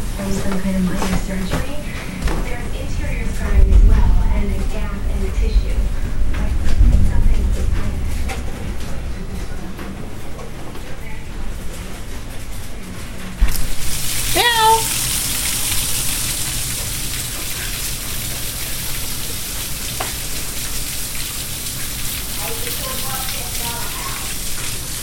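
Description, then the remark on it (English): Hail patters steadily on hard surfaces in a dense, crackling stream of impacts, growing brighter and hissier partway through, with faint voices murmuring in the background. “not as well as the hail last year, but we're getting hail.”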